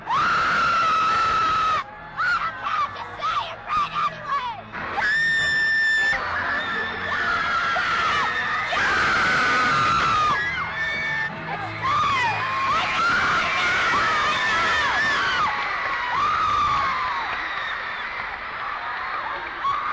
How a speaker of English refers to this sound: They're screaming more or less this time than last time? A lot less. A lot less, man. They used to break the microphone. But they used to charge the platform. They couldn't hold them back. There used to be too many to hold back.